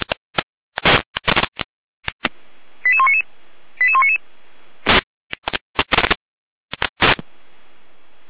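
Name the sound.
radio alerting tone sequence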